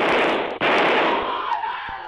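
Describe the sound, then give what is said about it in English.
Two sharp, cracking gunshots ring out as two men race up stairs from a subterranean lagoon, cutting through a steady, roaring hiss; the first abrupt and prominent, the second fainter about a second later. “As they race up the stairs, two shots ring out.”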